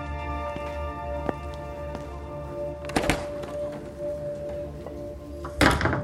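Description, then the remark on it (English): A heavy door into a dark bar swings open with a dull thunk and a scraping rush as McCarthy enters, followed by a second thud a few seconds later, over a steady low electrical hum. “McCarthy opens a heavy door and blinks as he enters a dark bar.”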